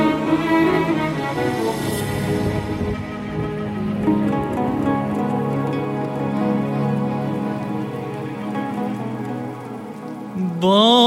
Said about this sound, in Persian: باران زد بی وقفه به روی سقف تنهایی،